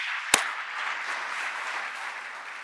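At a judges' plenary assembly, steady audience applause for the former county court chairmen fills the whole stretch, a dense even wash of many hands clapping, with one sharp louder clap standing out near the start.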